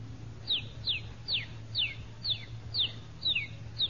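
A one-day-old rooster chick peeps in a steady series of about eight high, thin, downward-sliding notes, evenly spaced roughly every half second over a low steady hum.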